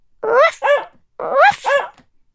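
A small puppy, Biscuit from the I Can Read story Biscuit's Big Friend, barks twice in quick succession, pauses, then barks twice more: four short, high yappy barks in two pairs, clear with no talking.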